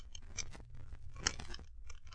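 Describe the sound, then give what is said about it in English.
Small metallic clicks and scrapes of a cellar door lock being picked with instruments, a busy irregular series of scratchy ticks and rattles with one sharper click partway through, fairly quiet and with no talking. “That is why I brought a few instruments with me, Watson, to force the lock.”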